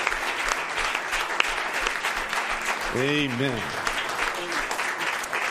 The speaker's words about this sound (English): Praise the Lord. Somebody give the Lord a hand clap tonight. Hallelujah.